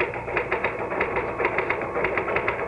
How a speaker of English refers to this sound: Just hit the typewriter